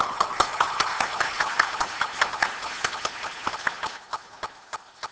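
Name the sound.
audience applauding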